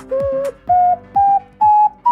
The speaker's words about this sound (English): Do you want to hear what it sounds like to blow into a 3D printed ocarina?